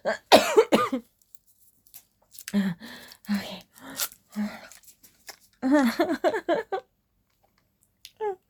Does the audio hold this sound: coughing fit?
yes